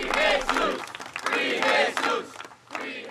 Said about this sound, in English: The crowd chanted and waved signs demanding that immigration agents ICE stay away from schools.